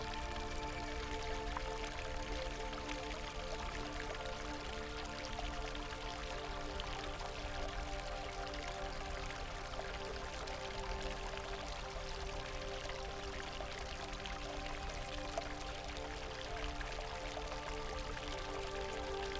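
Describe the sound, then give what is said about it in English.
A steady, continuous rush of flowing stream water with fine trickling and splashing detail, even throughout, with a soft sustained tonal hum beneath it and no voices. “Turn your attention now to the water.”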